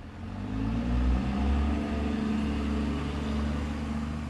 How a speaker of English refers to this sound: Maryville, a town of almost 11,000, sits about 30 miles south of the Iowa-Missouri border. Here on Main Street, traffic runs past the county courthouse.